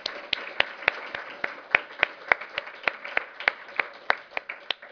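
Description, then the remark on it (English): An audience of public health colleagues applauds steadily at the start of a presentation, applause for Bernie Weintraub: a dense wash of many hands clapping with a few sharper, louder claps standing out, sustained throughout without any speech. “So I'd like you to start this presentation with applause for Bernie Weintraub and the energy he brings.”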